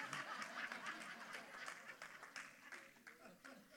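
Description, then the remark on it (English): A crowd claps steadily for several seconds, a dense patter of many hands, with some laughter and murmuring mixed in before the applause gradually thins. “Some of you all who know me have clapped a little too hard at that.”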